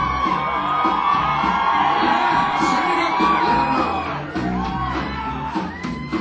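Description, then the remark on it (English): A large crowd at a celebration of a singer couple at the Blue Lake Zoo in Fairbanks, Alaska cheers loudly, a dense roar of shouts, whoops and yells sustained for several seconds before easing slightly toward the end. “I want you to be the loudest crowd we've ever had.”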